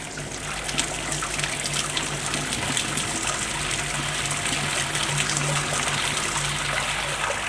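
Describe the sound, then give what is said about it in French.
Shower water runs steadily, an even hiss of spray pattering down with a faint low hum underneath, continuous and unbroken throughout. “Après avoir rangé ses affaires, il prend sa douche.”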